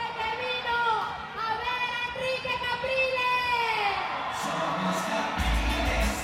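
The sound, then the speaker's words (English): Hundreds of supporters at the airport in Cumaná, Venezuela, clamour excitedly for a glimpse of opposition presidential candidate Enrique Capriles Radonsky: many voices shout and cheer at once in a dense, continuous roar, high whoops rising above the din and a low rumble swelling near the end. “hundreds of supporters clamour for a glimpse of their idol.”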